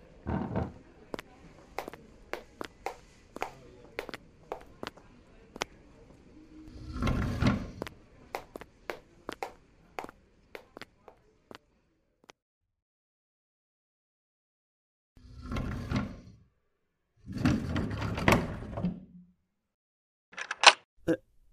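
The door of a school preparation room slides shut with a rumbling scrape, followed by short mechanical clicks like a lock being turned, among scattered footsteps and sharp taps.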